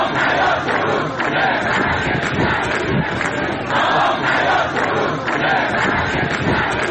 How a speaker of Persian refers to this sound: کشاورزان اصفهانی روز جمعه برای 12 روز در اعتراض به قطع حقابه خود و خشک شدن زاینده رود دست به تجمع زدند. هزاران تن از معترضان در این تجمع که در بستر خشک زاینده رود برگزار شد، با سر دادن شعار خواستار احیای این رودخانه شدند.